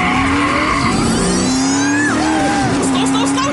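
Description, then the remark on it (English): A car engine roars loudly as the vehicle speeds off at the start of a driver's test, its tires letting out a high, wavering squeal that rises and bends over a few seconds. “Please start the car, sir.”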